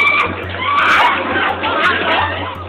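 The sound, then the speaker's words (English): A dense crowd in the Miami Beach entertainment district shouting and screaming at once as police fire pepper balls to clear them out under an 8 p.m. curfew, voices overlapping into a loud continuous roar over a steady low hum, with sharper cries rising out of the din now and then. “Fired pepper balls, clearing these crowds out.”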